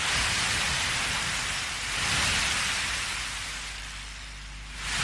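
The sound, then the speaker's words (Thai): Waves crash on a shore in a continuous hissing roar with a deep rumble underneath, swelling and easing in slow surges, with a fresh break rising at the end. No voices. “แต่สำหรับมนุษย์นั้นก็คงเชื่อแน่ได้นะครับว่าเสียงคลื่นที่ม้วนตัวซัดฝั่งจะยังคงเป็นมนต์ขลังเรียกร้องสำหรับร่างกายและหัวใจที่ต้องการทะเลอยู่ต่อไปครับ”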